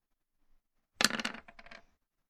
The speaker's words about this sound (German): Aber du streifst ihn nur so. Das heißt, du darfst jetzt nur zwei Würfel werfen.